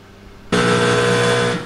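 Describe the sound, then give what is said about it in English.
A loud, harsh game-show red buzzer of disapproval sounds once, a flat sustained blare rich in overtones lasting about a second, then cutting off abruptly. “So with that being said, we're going to have to give her the red buzzer of disapproval.”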